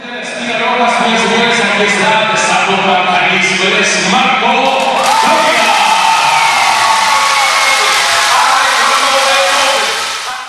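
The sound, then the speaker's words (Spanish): A large crowd at a fight roars and cheers continuously as a fighter is announced, a dense wall of shouting voices that swells louder midway and stays sustained to the end. “Pues se deja gritar todos.”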